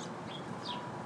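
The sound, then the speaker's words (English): Three chickens cluck softly in a coop, a brief burst of a few short, scratchy calls over a steady background hiss, with no talking. “Or no, they're just mad at their baby. Say, get out of that nest. Get out of the coop.”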